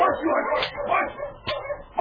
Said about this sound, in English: The sergeant and the constable heard the dog team being driven away.